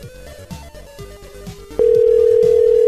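A telephone rings on an outgoing call made to check for messages: a loud, steady electronic tone cuts in partway through and holds, following a stretch of quieter rhythmic background music.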